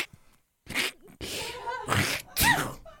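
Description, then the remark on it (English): A person makes a deliberate sneeze on request, a series of sharp, breathy bursts over a few seconds, fairly loud, with no talking. “Try the sneeze. Try the sneeze.”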